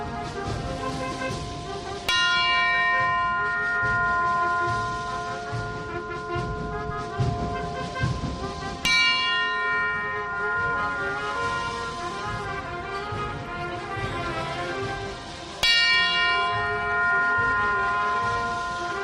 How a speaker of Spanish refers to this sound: Las campanas de ….